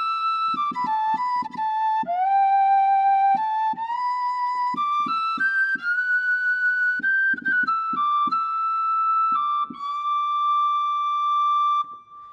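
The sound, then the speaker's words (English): A sampled Celtic tin whistle virtual instrument plays a bright, high melody of sustained notes with slides between pitches and some vibrato, articulations switched with the mod wheel, accompanied by soft rhythmic lower plucked notes. “Celtic tin whistle. This has some nice articulations, I believe.”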